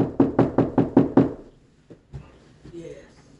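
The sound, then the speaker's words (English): Six loud, evenly spaced knocks rap out in quick succession on a solid surface, then stop, followed by quieter voices murmuring faintly. “And he's knocking this morning loud and clear.”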